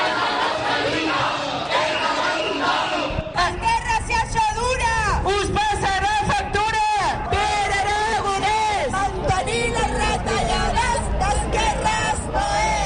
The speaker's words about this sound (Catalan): Entre la multitud s'anaven escoltant petards, xiulets i càntics de protesta com aquests.